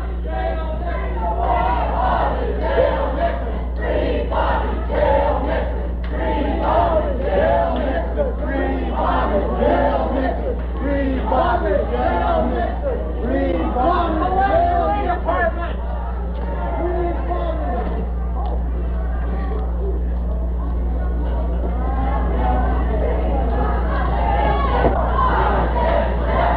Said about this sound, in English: And it looked for a moment as if they'd go out the Fifth Avenue door, but now they're going to march around the store.